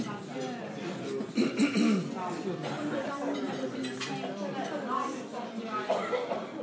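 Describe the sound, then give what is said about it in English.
Several people cough and splutter in short, rough bursts amid the steady murmur of many voices. “Everyone's coughing and spluttering.”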